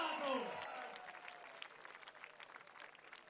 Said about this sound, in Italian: È grande, un applauso